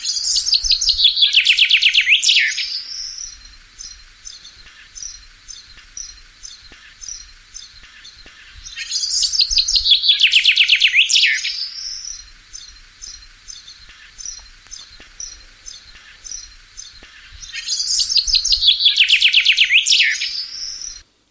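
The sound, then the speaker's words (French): A common chaffinch sings three times, each bright descending trill ending in a flourish, spaced about eight seconds apart, with faint chirps and ticking between phrases. No one speaks. “Voilà, donc là, on vient d'écouter le pinson des arbres, espèce très commune par chez nous.”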